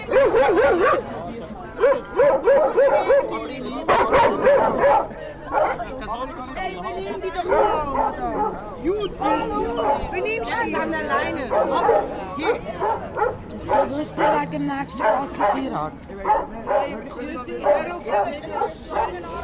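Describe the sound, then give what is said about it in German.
Several dogs bark and yip repeatedly in short bursts amid a crowd of about 20 people sitting on the steps in front of a church in warm weather, with overlapping chatter and voices filling the background throughout. “Die Leute genießen die seltene Wärme, trinken Bier, schlafen ihren Rausch aus, plaudern, rufen oder versuchen, ihre Hunde im Zaum zu halten.”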